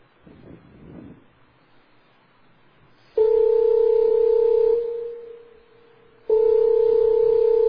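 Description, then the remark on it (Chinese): A telephone ringing tone sounds loud: two long, steady electronic rings separated by a short pause, after a few seconds of faint handling noise while a call is dialed to a high-school student not yet home by seven o'clock. “嗯，七点还袂返来，敲一个电话予伊。”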